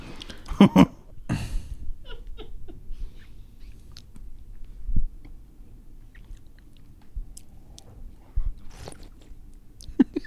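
slurping

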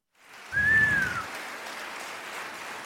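round of applause

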